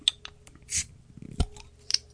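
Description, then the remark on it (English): A beer container being opened while held in front of a microphone: a few small clicks, a short breathy hiss of escaping gas, then a sharp snap followed by faint rattling clicks. No one speaks. “So I'll just hold this in front of the mic and open it.”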